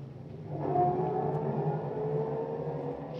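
A getaway car's engine roars up and holds a steady, loud drone as the vehicle speeds off, a continuous rumbling whine with no voices over it.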